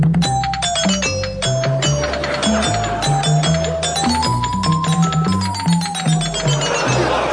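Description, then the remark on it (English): A jarring BBC Radio Sheffield jingle made of clattering, jangling metallic crashes, meant to represent cutlery thrown down some stairs, over a repeating low bass pattern and a wavering high tone, loud and continuous with no voices. “It was meant to represent the sound of cutlery by throwing it down some stairs.”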